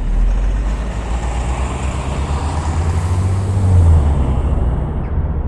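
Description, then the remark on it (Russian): Steady city traffic rumble with a heavy vehicle's low engine drone swelling, a city bus pulling up or idling at a stop as someone boards it on the way to work, continuous and fairly loud with no talking. “Сейчас сяду в автобус, устроюсь поудобнее и по пути на работу вам все расскажу.”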